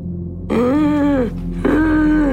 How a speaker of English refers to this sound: You know, his breathing was just kind of labored.